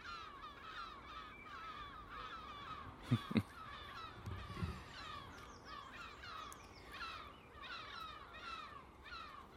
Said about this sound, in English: Seagulls and one crow. Whatever's going over in the park, I can see 7 or 8 big seagulls trying to harry a crow. So I guess the crow's found food. It's got it stuffed in its beak and it ain't letting it go. What a rammy.